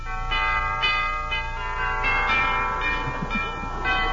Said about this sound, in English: Rather early when I drove up to the front door of that impressive old colonial mansion, and I rang the doorbell.